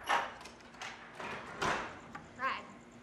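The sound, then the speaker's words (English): A woman unlocks and opens a front door: a series of clicks, rattles and scraping bursts spread over a few seconds, ending with a brief creaking swing. “She unlocks the door and opens it.”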